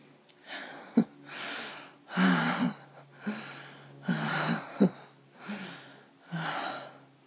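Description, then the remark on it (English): Heavy gasping breaths, about seven in a steady rhythm, each a rough, airy rush with a faint voiced catch, fairly loud and with no talking. “You gasp after that rush.”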